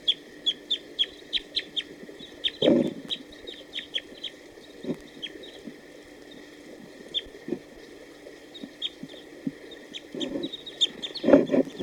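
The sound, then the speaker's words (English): A wild male bird, hanging around a net setup after coming down to bathe, sings in short phrases: bursts of sharp, high chipping notes in a quick, steady rhythm, with a couple of louder, lower, harsher calls breaking in. No one speaks. “there were some song phrases given by a wild bird just a few minutes ago.”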